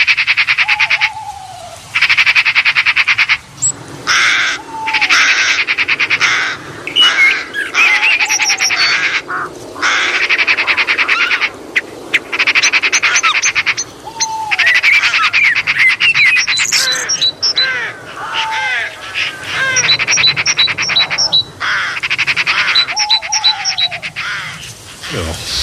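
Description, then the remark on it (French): A loud, dense mix of bird calls, including crow caws, tit chirps and blackbird calls, overlapping continuously with squawks, croaky calls and bright twitters, like a crowded aviary. “Non, là, on va entendre des oiseaux. Pas facile à reconnaître. On les a tous mélangés dans notre volière imaginaire.”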